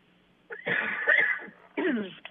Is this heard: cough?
yes